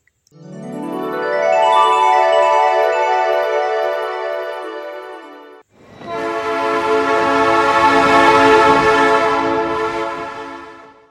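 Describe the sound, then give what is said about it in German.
A train horn blares in two long, loud blasts, the second richer and noisier with rumbling rail sounds underneath, as a train passes. No talking. “Ein Zug. Oh nein, nein, nein, das ist nicht mein rotes Rennauto.”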